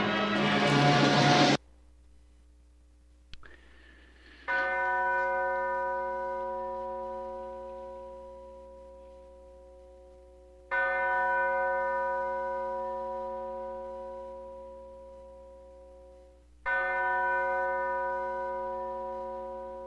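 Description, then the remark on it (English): A large church bell tolls three times at slow, even intervals, each strike ringing out loudly and fading gradually, after a brief burst of noise at the start. No one speaks. “Why did we play the bell tolling?”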